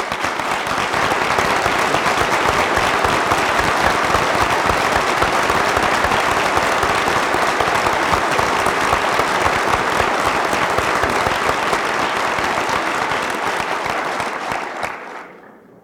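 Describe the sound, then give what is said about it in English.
A large crowd at a university graduation ceremony applauds steadily for about fifteen seconds. Graduates, faculty and administrators clap for the standing family members of the degree recipients, a dense, sustained wash of clapping that holds its level throughout before fading out at the end. “husbands, and children of those who have been awarded degrees today to stand up so that the graduates, the faculty, and the administrators may applaud you for the role you have played in providing for their education.”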